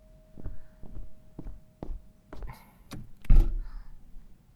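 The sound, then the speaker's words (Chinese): Several soft footsteps approach, then a latch clicks and a door is pulled open with a solid thunk and a brief rattle as someone opens it for an arriving visitor, with no one talking. “好像来了，你等一下，我去帮他开门。”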